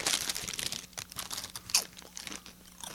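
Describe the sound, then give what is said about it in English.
A crow bites into a crunchy tortilla chip lying on the grass: a burst of dry, crackling crunches as the chip crumbles into tiny bits, followed by smaller irregular snaps and crumbles, fairly quiet, with no voices. “First of all, when he bites into it, it crumbles into tiny bits.”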